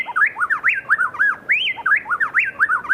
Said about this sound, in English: The male repeats a series of clear notes, accompanied by the female's steady trill. In Ecuador, plain-tailed wrens blend their voices so perfectly that it sounds to our human ears as if just one bird were singing.